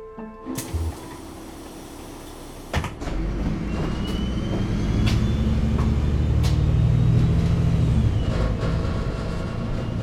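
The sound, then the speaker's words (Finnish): Steady low engine rumble and road noise from inside a moving bus on the way home, with a few sharp clicks and rattles early on and the drone growing slightly louder and heavier toward the end. “Istun bussissa matkalla kotiin.”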